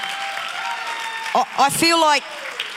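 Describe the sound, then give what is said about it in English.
An audience claps steadily for a panel of people in a dense wash of applause that fills the whole stretch, with a few short shouts or voiced cheers rising above it midway. “Well, why don't you clap for them, thank them.”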